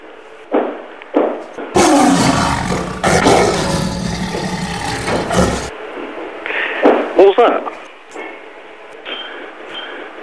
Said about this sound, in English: What was that? Sounds like a lion.